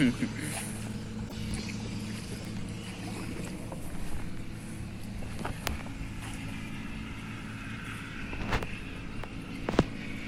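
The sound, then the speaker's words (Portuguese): A boat engine drones steadily as the vessel maneuvers to dock with a tugboat nearby, with a few sharp knocks and clanks near the end and faint voices in the background. “Aí precisamos estacionamento. Tá vendo o rebocador aí?”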